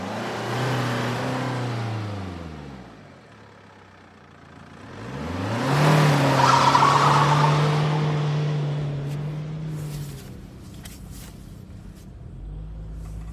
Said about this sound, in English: I'll start the car.